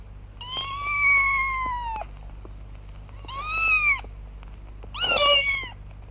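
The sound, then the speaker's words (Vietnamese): A cat meows three times: a long, drawn-out first call, then two shorter, higher and more wavering ones, over a steady low background hum. “Hai đứa trẻ bưng cái rây đựng đầy nước về nhà và nhìn thấy con mèo đang phơi nắng.”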